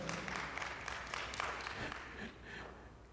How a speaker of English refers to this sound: Yeah, that's, wow, you're doing a great job. Let's give a good clap offering there.